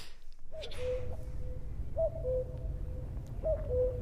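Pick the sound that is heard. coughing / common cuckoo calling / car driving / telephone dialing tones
common cuckoo calling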